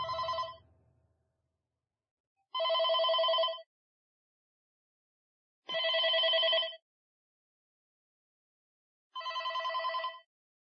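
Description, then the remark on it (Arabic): A telephone rings four times, each ring a steady electronic trill lasting about a second, separated by regular pauses of silence. The ringing is clear and fairly close, with no voices. “في هذه الأثناء دق جرس الهاتف.”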